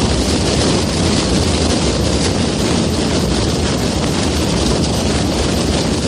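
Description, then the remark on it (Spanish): Thousands of drums beat together at noon on Good Friday in the Plaza de España of Calanda, Teruel, Spain, during the 'rompida': a dense, unbroken roar, a steady wall of massed drumming from a large crowd with no pauses and no voices. “Así han sonado miles de tambores en la Plaza de España del municipio.”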